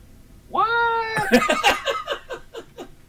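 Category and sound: animal, cat meowing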